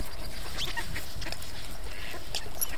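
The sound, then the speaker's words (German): Ducks quack and call intermittently on a partly frozen lake, bathing at the edge of the ice, over a steady, noisy outdoor background. A few brief higher chirps are mixed in and no one speaks. “wie dick es der Rand ist, wo die Enten baden”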